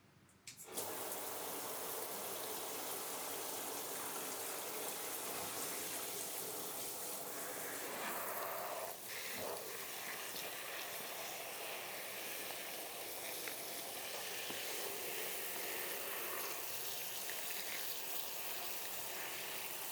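shower water rinsing hair

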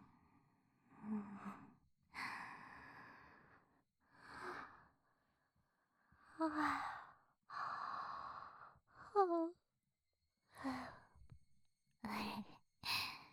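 yawn

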